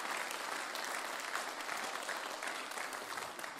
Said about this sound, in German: Großartig. Gebe ihm mal einen riesen Applaus,